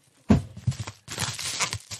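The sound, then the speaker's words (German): Poppable packaging paper from a parcel crinkles and crackles as it is handled, in two bursts of rustling separated by a brief pause, moderately loud, with no voices. “Oh, dieses Papier, hört mal.”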